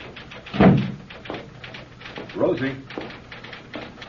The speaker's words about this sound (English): In the outer office of author Nat Post, Secretary Rosie Martin works feverishly to transcribe the latest chapters of Nat's future bestseller. When the door opens, and Nat comes in.